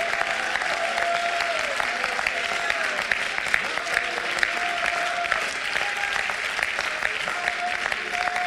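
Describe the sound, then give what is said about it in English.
A church audience claps hands and shouts to the Lord in a steady, dense roar of applause that holds for the whole stretch, with scattered voices shouting and whooping faintly underneath. “Would you clap your hands and shout to the Lord right now?”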